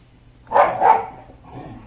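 A pet dog gives two quick barks in close succession, moderately loud against a quiet background, then things settle into a faint low hum.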